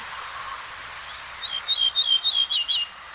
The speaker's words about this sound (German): Ach, ich kann nicht genug kriegen vom Ortolan, aber ich verschone euch jetzt.